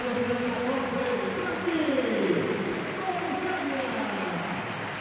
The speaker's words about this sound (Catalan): guarda't a Santiago, ovació per a Dei Rubio, l'estadi en peu.